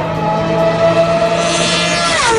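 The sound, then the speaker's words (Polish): A Formula 1 car engine, a 2012 Renault F1 car driven by Polish driver Robert Kubica in a private test organized by the Renault team, screams with a loud, steady, high-pitched whine rich in harmonics, then its pitch drops sharply near the end. No one speaks. “Na te dźwięki kibice Roberta Kubicy czekali od dawna. W zeszłym tygodniu polski kierowca zasiadł za kierownicą bolidu Formuły 1 zespołu Renault.”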